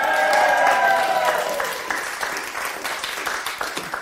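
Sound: audience cheering and applauding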